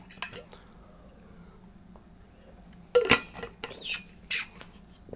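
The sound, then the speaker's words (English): Someone takes a sip of water, with a faint clink of a glass at the start and then a sharp knock as it's set down, followed by soft swallowing and handling noises. “Hold on, I'm going to take a sip of water.”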